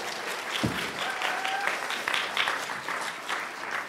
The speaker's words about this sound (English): Give him a round of applause, everyone.